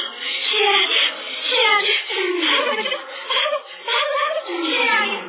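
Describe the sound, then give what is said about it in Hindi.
A lion roars in a long run of deep, rumbling growls that rise and fall in pitch over about five seconds. The loud, rough calls come in several swelling bursts with no talking. “शेर की आवाज सुनकर किरनी तो कांप गई, अपने बच्चों को इशारा किया और ये कहते हुए भाग गई।”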